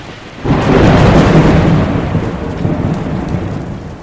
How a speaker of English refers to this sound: Not long after leaving the harbor, the boats ran into severe weather. And as they got further into the Atlantic Ocean, the wind, rain, and waves got even stronger.